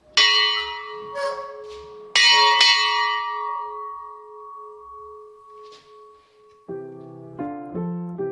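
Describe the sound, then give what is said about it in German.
A loud bronze bell from the year 1598, a museum collection piece, is struck twice, each stroke ringing out with a long shimmering decay, followed near the end by a quick run of brighter, higher chimes. “Und einer dieser Sammlungsstücke ist auch diese Glocke aus dem Jahr 1598 und die jedes Mal großes Entzücken hervorruft. Es ist laut.”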